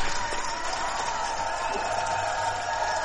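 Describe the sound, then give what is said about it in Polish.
An audience applauds and cheers a contestant's correct answer in a speedway quiz, a steady, dense wash of clapping that holds at an even, fairly loud level for the whole stretch, with no one speaking over it. “Tak, oczywiście, tak. Brawa dla ciebie.”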